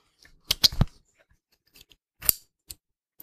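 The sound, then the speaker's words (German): A shoe's click-fastening system is opened, a foot is put in, and it is closed: a quick cluster of sharp plastic clicks, a pause, then another click and a short snap, with no talking. “Klicksystem auf, Fuß rein, Klicksystem zu.”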